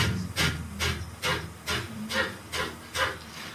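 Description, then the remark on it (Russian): Seven or eight sharp, forceful exhalations through the nose during kapalbhati yoga breathing, evenly spaced at a brisk steady rhythm, each a short breathy hiss, fairly loud with no talking. “Нет, не просто носом хлюпать надо. Надо еще животом, под пупком, мышцами живота туда внутрь.”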